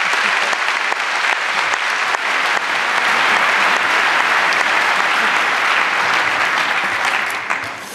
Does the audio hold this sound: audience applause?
yes